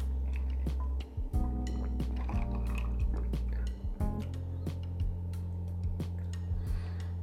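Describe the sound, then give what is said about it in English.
Someone sips a lemony cocktail with fresh mint: a few soft, wet slurps and small liquid clicks come at irregular moments over a steady low hum, with no talking. “I'm going to taste this cocktail.”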